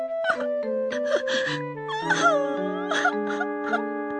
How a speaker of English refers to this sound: She began to cry.